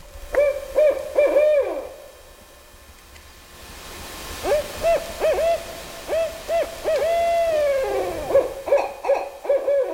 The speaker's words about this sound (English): We're going to play just the audio of the barred owl. I've got a barred owl in the woods behind my house, and sometimes this is what I hear at night.